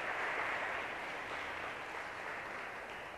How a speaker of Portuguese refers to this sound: Dê uma linda salva de palmas para os meninos.